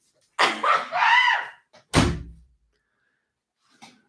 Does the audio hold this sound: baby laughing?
no